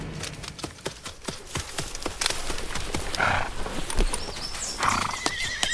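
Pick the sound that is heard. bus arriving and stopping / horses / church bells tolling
horses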